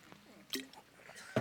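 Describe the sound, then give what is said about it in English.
A quick sip of water: a soft wet slurp, then a small swallow and a faint liquid click, all quiet and over in about a second. “Good time for me to take a drink of water and catch my breath.”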